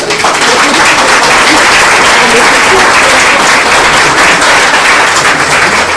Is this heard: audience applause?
yes